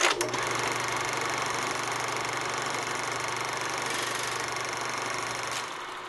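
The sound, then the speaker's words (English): A steady mechanical whirring of an 8mm movie projector running, with a fast, even clicking texture and a faint low hum beneath, holding constant throughout with no voices. “The sound from my life, writes Joy in Memphis, Tennessee, that has vanished, the burring and clicking of the 8mm movie projector.”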